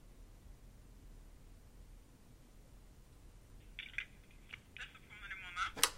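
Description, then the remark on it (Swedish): After several seconds of quiet hiss, a telephone in room 717 dials 09, a string of short electronic dialing tones beeping in quick succession. It is fairly soft and ends with a sharp click. “Men då ringer vi upp igen här.”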